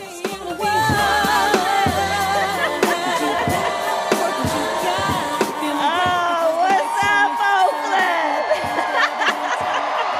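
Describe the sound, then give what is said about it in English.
A large, loud crowd of about 22,000 packed into a plaza at a Kamala Harris rally cheers and whoops, many overlapping voices blending into a sustained roar with rhythmic chanting of "Kamala, Kamala" and scattered claps throughout. “In her signature blue pantsuit, waving to the crowd, she was greeted to cheers of "Kamala, Kamala."”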